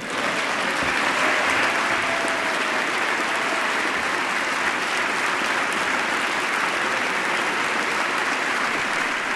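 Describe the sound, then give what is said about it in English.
Sustained applause from members of Congress from both sides of the aisle giving the President a standing ovation, a steady, dense wash of clapping that holds at an even, loud level for the whole stretch without any voices breaking through. “Now, once again, the President is getting a standing ovation, sustained applause, for members of Congress from both sides of the aisle.”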